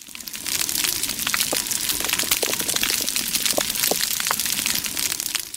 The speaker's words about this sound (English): It's coral reef. Wow. The popping and chewing sounds are from like tons of organisms chewing and moving and vocalizing on the reef.